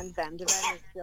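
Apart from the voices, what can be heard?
sneeze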